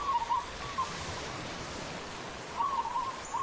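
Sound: birdsong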